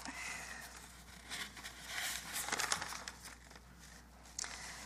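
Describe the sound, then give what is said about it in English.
Paper pages rustle and shuffle for several seconds, a soft continuous crinkling with brief sharper flicks as sheets are turned and moved. No one speaks. “I couldn't get my iPad to work, and so this is what happens to my generation when you have to deal with paper.”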